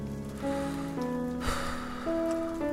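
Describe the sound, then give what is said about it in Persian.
A steady wash of falling rain hisses in the background during a storm with thunder and lightning, while sustained, stepping musical notes play clearly over it, with no voices. “رد و برق زد، داره بارون میاد.”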